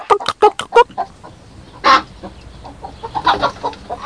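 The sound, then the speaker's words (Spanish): The hen Kika clucks at the door of the henhouse in a quick run of short bursts, gives one louder drawn-out squawk, then settles into softer, scattered clucking. No one speaks. “Más adelante, Camilón se encontró con la gallina Kika a la puerta del gallinero.”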